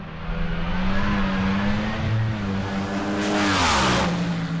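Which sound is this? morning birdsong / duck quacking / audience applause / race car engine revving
race car engine revving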